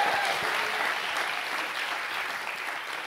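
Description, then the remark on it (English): A church audience claps their hands unto the Lord in sustained, dense applause, a steady crackling wash of many hands at a fairly even loudness throughout, with no voices standing out. “If you receive that one more time, clap your hands unto the Lord.”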